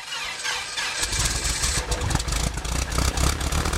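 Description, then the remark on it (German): A small aircraft engine, on a plane that had stood unused for a long time, cranks briefly and then catches about a second in, settling into a loud, rough, pulsing idle as it warms up, running steadily to the end, with no voices. “Jetzt hoffen alle, dass der Motor anspringt.”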